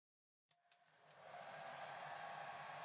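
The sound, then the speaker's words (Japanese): A hair dryer clicks on after a moment of silence, with a few quick sputters before settling into a steady, loud whooshing roar of warm air being blown onto a customer's hair to dry it, continuing to the end. “私はこっちから温風を当てていくね。”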